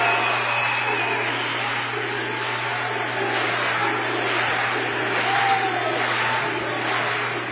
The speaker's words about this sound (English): 60 to 34, and listen to the North College crowd.